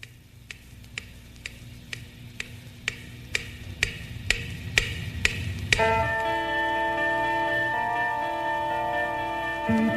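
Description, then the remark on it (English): A clock ticks steadily for several seconds, then its alarm, set for 8 o'clock, suddenly starts ringing, a loud, continuous, high-pitched metallic jangle that keeps going to the end. No one speaks. “these two hands come out of the clock and make sure you get up.”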